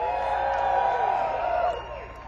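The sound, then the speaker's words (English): A festival crowd at Delfest cheers and whoops, a dense, steady wash of many voices shouting together at fairly loud level, easing slightly near the end. “And that's Delfest in the crowd.”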